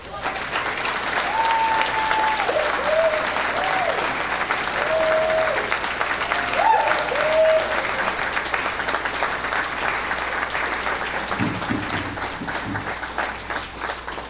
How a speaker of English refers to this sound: another round of applause, standing ovation for every single one of our honorees.